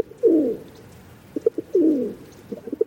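Pigeons cooing: two throaty, rolling coos about a second and a half apart, each followed by a few short, soft burbling notes, with no voices.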